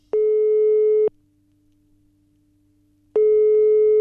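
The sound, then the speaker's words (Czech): Two steady electronic telephone ringback tones, each about a second long, separated by a couple of seconds of near silence, as an outgoing call to an actor rings on the line, with no one speaking. “A já myslím, že je čas, abych zatelefonovala svému kamarádovi, kolegovi, herci Vaškovi Šandovi”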